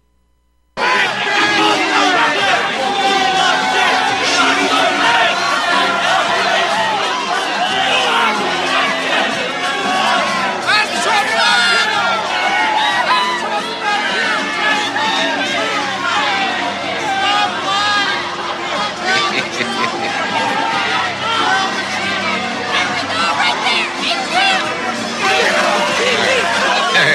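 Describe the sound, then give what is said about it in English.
A large rally crowd fills the scene with a dense, continuous roar of chanting and murmuring voices, with occasional shouts and whoops rising out of the steady hubbub. “Not that you can understand a word, but you can hear the crowd, and you know, it's kind of funny.”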